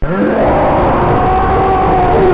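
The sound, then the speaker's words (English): A loud, sustained electronic roar from the villain of the Sinistar arcade game, played through the stereo sound of a Sinistar cabinet: a dense rumbling growl threaded with whining tones that slowly bend in pitch, steady throughout with no talking. “It's an absolutely stunning cabinet design, and with its stereo sound, when Sinistar comes roaring at you, from behind your head you hear...”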